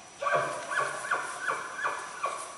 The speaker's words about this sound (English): I'd never heard bugling elk before.